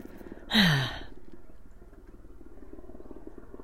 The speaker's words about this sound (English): yes, thank you, Mr. Helicopter, you can go off now. And there it is, high in the sky above my house.